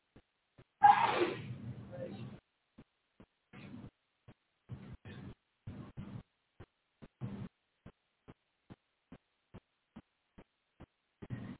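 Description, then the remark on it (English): A single loud sneeze bursts out near the start during a church service as a hymn is announced, followed by a string of soft, evenly spaced low thumps and brief murmurs, otherwise quiet. “Bless you.”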